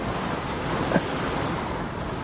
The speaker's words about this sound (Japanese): 雨の音好き。でもこの音はちょっと度が過ぎてるような気がするけどね。